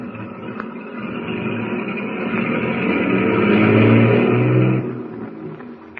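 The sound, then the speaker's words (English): The heavy engines of a motorcade of tank trucks rumble and rev steadily, swelling louder for a few seconds before fading as the trucks pull away on their way to the Bear River Refinery; no voices, just a continuous mechanical drone. “Saved from almost certain disaster, Tumbleweed's motorcade of tank trucks continues on its way to the Bear River Refinery.”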